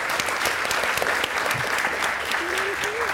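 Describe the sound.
An audience applauds, a dense, steady wash of many hands clapping at even loudness from start to finish, with a faint voice briefly rising over it near the end.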